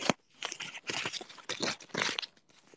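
Paper banknotes being counted, with a series of crisp, crinkly rustles and flicks coming in uneven bursts about every half second, moderately loud with no talking.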